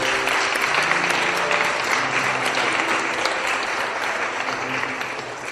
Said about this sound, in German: Das ist auch ein Applaus.